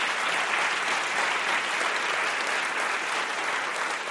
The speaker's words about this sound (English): So I just want to invite a round of applause to all of them for the way that they did this.